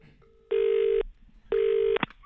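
Two long, evenly spaced electronic tones from a phone being dialed, each about half a second, loud and close, followed by a brief click; no talking.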